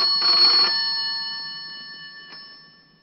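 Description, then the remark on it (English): A telephone bell rings once in a short, clattering burst, then its metallic tone lingers and slowly fades, with a faint tap partway through the decay. No one speaks. “When it stops ringing, he picks up the receiver and makes a call.”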